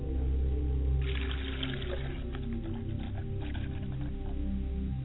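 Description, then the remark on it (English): A glass of water is poured out onto the ground as a libation for a father's spirit, in a steady splashing stream lasting a few seconds, moderately loud over a low rumbling background, with no one speaking. “I like to pour libation for my father's spirit and pour a glass of water, and I say ashe.”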